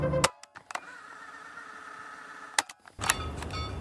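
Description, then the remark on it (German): A courier's car engine runs at a steady idle with a few sharp clicks and thumps as the car is parked, then cuts out, followed by a door clunk and a louder rustling noise. “Der Kurier, der Basings Medikamente auslieferte, parkte sein Auto, brachte die Sendungen zu den Ärzten.”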